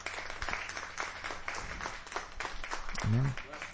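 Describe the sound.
A crowd claps steadily, many hands making a dense, even patter at moderate volume, giving a clap offering to the Lord in honour of a pastor. Voices call out over the applause, with one louder shout near the end.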